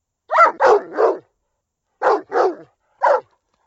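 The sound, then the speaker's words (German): A dog barks six times: a quick burst of three barks, a short pause, two more, then a final single bark. No voices. “Heute werde ich euch etwas über Hunde erzählen.”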